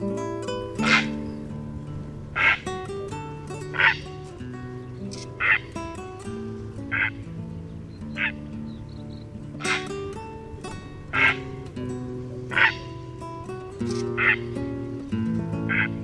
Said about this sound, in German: Das war der Purpurreiher.